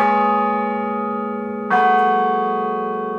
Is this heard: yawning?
no